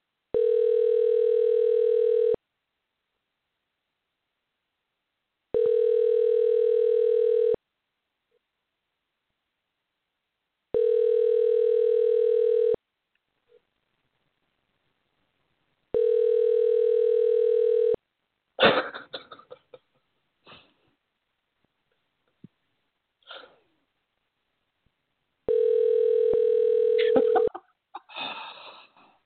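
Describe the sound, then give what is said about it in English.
A telephone ringback tone repeats five times, each a steady, buzzy two-second pitch followed by a pause. In the later gaps someone coughs and clears their throat, and nobody speaks. “So let me see if I can get Brett on the phone.”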